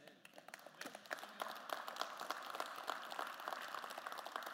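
An audience at Champion Forest applauds steadily, dense overlapping claps forming a continuous wash of sound at moderate volume, with no one speaking.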